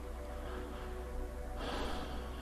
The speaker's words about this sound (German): Und zusammen nehmen wir jetzt hier ein paar bewusste Atemzüge. Wir atmen dreimal 5 Sekunden ein.